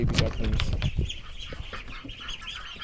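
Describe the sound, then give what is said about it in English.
Two-week-old ducklings of egg-laying breeds peep and chirp in a busy cluster, with soft rustling and scuffling of small birds moving around, a thin high-pitched chatter running steadily throughout. “Yeah, so these ducks are 2 weeks old now from hatch, so...”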